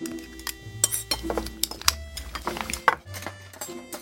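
Metal utensils clink and scrape against a dish in quick, irregular taps, clear, as someone eats steadily from a bowl of tangsuyuk (Korean sweet and sour pork) at a restaurant, with a low background hum underneath.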